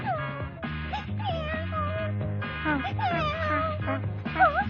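Several cat meows with rising and falling pitch sound over steady background music, fairly loud and close, with the last meows coming near the end.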